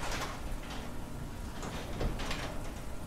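A warehouse garage door rumbles and rattles open at about 1 a.m. on a rainy, cold night, in one continuous, steady run, the grinding mechanical noise holding at a moderate level for a few seconds with no voices.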